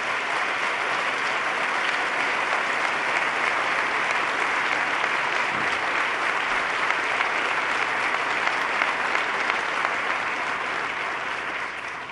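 Sustained audience applause, a dense, steady wash of many hands clapping at even loudness for about twelve seconds, with no voices rising above it.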